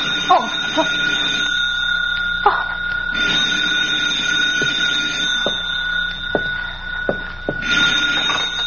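A telephone rings with a steady, shrill electric tone, swelling into two brighter bursts of ringing, while sharp clicks and knocks sound intermittently underneath.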